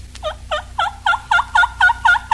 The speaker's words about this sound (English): This hen is receptive to a gobbler. Listen to her invitation.